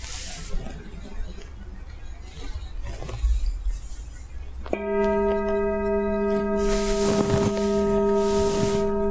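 After a few seconds of soft rustling and hiss, a meditation bell is struck once during a sitting meditation and rings with a clear, sustained, shimmering tone that lingers steadily until the end.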